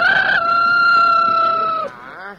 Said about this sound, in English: Eat the corn now. I got the rooster. Grab a hand now, quick. I got both hands, one by the foot, one by a wing.